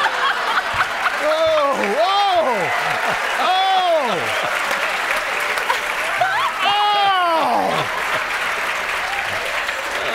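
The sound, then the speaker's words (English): A large audience applauds loudly and steadily for about ten seconds, with whoops and cheers rising above the dense clapping. “Well, how often does Peter get that kind of applause?”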